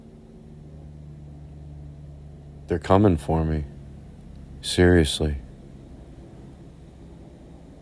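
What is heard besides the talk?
helicopter flying overhead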